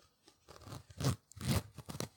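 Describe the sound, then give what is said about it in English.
The zipper on a pair of pants being undone, heard as two raspy, rising pulls about half a second apart, with softer rustling before and after. There is no talking. “zipper.”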